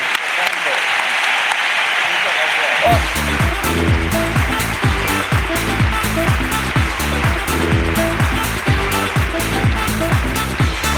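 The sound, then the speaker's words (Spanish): An audience bursts into steady applause for La Ruina, and after about three seconds a loud, punchy musical beat kicks in with regular thumping pulses while the clapping continues underneath. “Aplauso para la Ruina”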